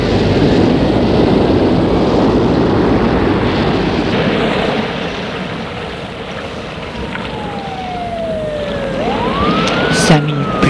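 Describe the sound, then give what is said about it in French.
A police siren, with police and firefighters coming to an accident, wails in the second half, its pitch sliding down and then back up, rising out of a loud, steady rumbling wash of noise that fills the whole scene. “Ils entendent les sirènes de la police.”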